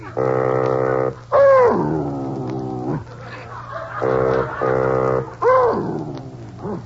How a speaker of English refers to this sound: Well, Baldy, you're singing! Well, Baldy, you can sing. You're a singing dog.